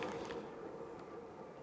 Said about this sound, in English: See what I mean, though? The train is still going.